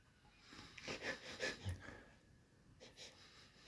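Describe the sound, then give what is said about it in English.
Several quick sniffs in a row as someone smells a bag of chips, followed by a softer breath near the end; no one speaks. “All right, I'm going to give this the sniff test first.”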